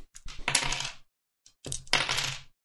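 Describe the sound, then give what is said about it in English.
Mirror glass shatters twice in quick succession as it is hit with a hammer, each bright crash followed by a spray of tinkling shards, with a short silent gap between the two bursts and no voices. “as you hit it with your hammer, Rizwin, and the mirror shatters”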